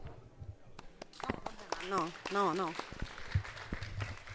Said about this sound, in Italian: No, invece secondo me l'applauso era necessario in questo punto, perché in pochissimi minuti si è riuscita a riassumere un po'